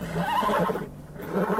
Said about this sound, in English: You look and sound a mess. Just as bad as the first day I arrived. But you're a good old horse. Faithful.